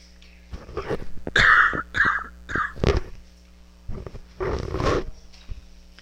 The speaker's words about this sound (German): Räuspert euch, schneuzt euch.